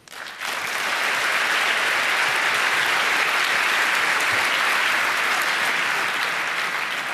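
An audience breaks into steady, sustained applause to welcome the speakers of a talk, many hands clapping in a dense, even wash that swells quickly and holds loud for several seconds, with no voices over it.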